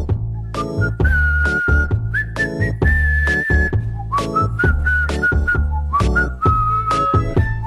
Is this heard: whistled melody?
yes